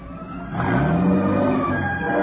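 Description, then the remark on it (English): A car engine rumbles steadily, its pitch swelling briefly then dropping as the car slows and pulls into the side of the road by the edge of a cliff and comes to a stop, with no voices. “It was as the car came to a standstill that I suddenly remembered.”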